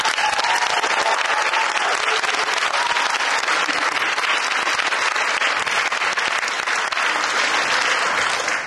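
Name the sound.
round of applause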